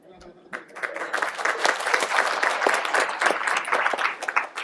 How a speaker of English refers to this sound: Well, he didn't do anything. I don't know why you're clapping for him.